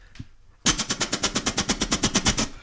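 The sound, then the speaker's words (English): A voice imitates machine gun fire: after a short pause, a loud, rapid burst of even, rattling pops runs steadily for about two seconds with a harsh, noisy texture. “Have I done a machine gun? No, not yet.”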